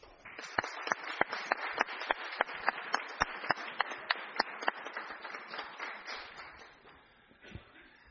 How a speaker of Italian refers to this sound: farei un applauso.